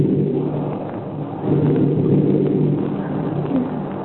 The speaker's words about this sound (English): And before we could nod off to sleep, we heard a clap of thunder, and it started to rain.